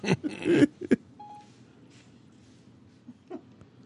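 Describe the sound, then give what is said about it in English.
A brief, thin electronic chime from a phone's Siri voice assistant, set off by pressing the Siri button, sounds once after a couple of loud, rustling bursts, then fades into a quiet background hum. “You're hitting your Siri button on your phone. She's talking to you.”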